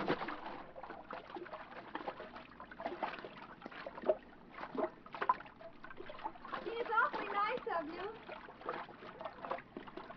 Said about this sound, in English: I'll swim out and take a look.